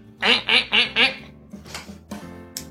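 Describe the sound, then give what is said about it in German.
A person imitates a duck with four loud, nasal quacks in a quick, even rhythm, followed by a few softer, scattered vocal squawks. “Das ist eine Ente.”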